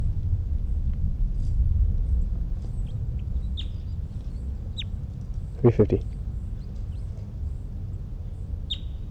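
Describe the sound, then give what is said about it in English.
Birdsong: a few short, high chirps scattered over a steady low rumble, with a brief throaty double call partway through. “It's 327, and I think it's 305 who's in song.”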